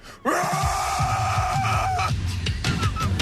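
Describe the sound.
A man lets out a loud, sustained imitation of a Sasquatch call, a strained, wavering howl that holds a steady pitch for about two seconds before breaking into rougher, choppier yelps.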